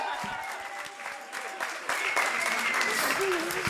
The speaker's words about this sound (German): Ein Applaus für die Männer!